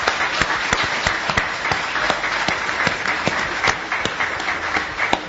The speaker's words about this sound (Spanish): Vamos saludando entonces, y capaz que con los aplausos del público, a quienes nos acompañan en la mesa esta mañana.